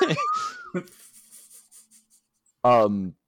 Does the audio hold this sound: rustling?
yes